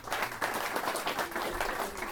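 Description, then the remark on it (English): A crowd applauds steadily, giving another round of applause for two speakers, many hands clapping in a dense, continuous patter that holds at an even level throughout, with no voices rising above it. “I think both of them deserve another round of applause.”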